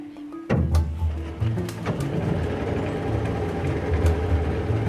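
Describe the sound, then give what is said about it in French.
The outboard motor of a pirogue in Casamance coughs to life after a brief quiet moment, then runs steadily with a loud, low, throbbing drone, rising and falling slightly as it keeps going. “Moteur en marche.”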